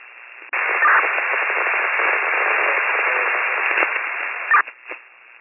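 Harsh, steady radio static bursts on abruptly and hisses at an even loudness for about four seconds, then cuts out with a couple of brief crackles. No voices come through.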